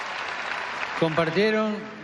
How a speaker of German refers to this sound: Also, das war doch toll. Die verdienen einen Applaus. Danke.